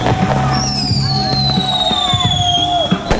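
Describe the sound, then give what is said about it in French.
Small fireworks launched by protesters toward windows where people wave shriek with long, slowly falling whistles over a noisy crowd outdoors, ending in a sharp bang near the end. “On voit les manifestants lancer une sorte de petits feux d'artifice pour les fenêtres qui font des grands signes.”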